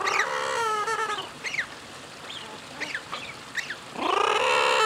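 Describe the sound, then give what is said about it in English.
About 30 murres splashing in a circular water tank call in loud, harsh, overlapping bursts at the start and end, with shorter rising and falling cries scattered between, all over a steady wash of background noise; one beats the water with its wings. “There are about 30 murres in this tank.”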